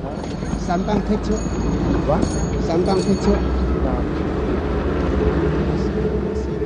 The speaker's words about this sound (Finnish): Liikenteen humu nielaisee hänet mennessään. Sellainen on ikäviltä sivuiltaan tuo kuuluisa Hong Kong